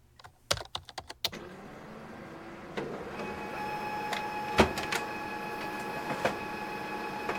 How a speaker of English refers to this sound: Let's just see if I can get these reports done as fast as possible, and then cross my fingers that this printer does not run out of paper.